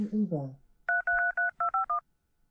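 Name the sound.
telephone dialing tones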